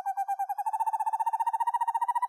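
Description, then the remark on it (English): An owl's eerie, descending whinny call: a single tremulous, whistled trill of rapid pulses lasting a couple of seconds, heard clearly and alone with no other sounds around it. “this owl produces a range of sounds, from soft trills to eerie, descending whinnies that sound like ghostly whistling in the woods.”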